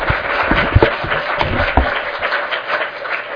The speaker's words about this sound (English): Thank you, everyone. Can I have a round of applause for all of our presenters?